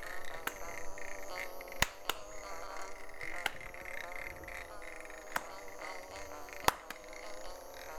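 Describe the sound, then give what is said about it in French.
A continuous, wavering buzz like a bee or mosquito hums steadily throughout, broken by a handful of sharp, snappy clicks at irregular intervals; no one speaks. “C'est quoi ce bruit ? On dirait une abeille ou un moustique !”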